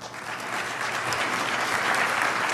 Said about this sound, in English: Applause for Professor Nora Erekat. You heard her address to the United Nations on Nakba Day, May 15, 2025.